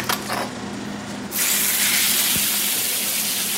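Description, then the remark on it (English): A loud, steady sizzling hiss from a hot grill, where steak is being chopped and mixed with onions for a cheesesteak in the back of a restaurant, surges in after a quieter start and holds, with a single faint knock partway through; no one speaks. “Yeah, I'm just chopping the steak on the grill right now. And mixing the onions in as I go.”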